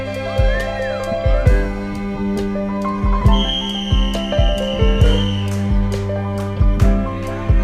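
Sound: person whistling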